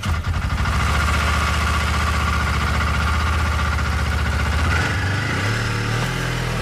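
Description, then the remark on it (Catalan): A snowmobile engine runs loudly and steadily, a rough droning rumble that shifts pitch slightly near the end, with no voices over it. “Clar, nosaltres movem amb moto de neu per la nit.”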